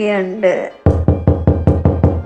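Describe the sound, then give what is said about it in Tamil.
A short spoken exclamation, then a run of seven loud, evenly spaced knocks on a door, each a sharp thud with a brief resonant tail. “யாரப்பா கதவை தட்டுறது?”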